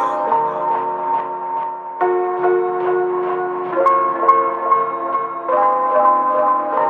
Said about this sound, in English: Bell ringers.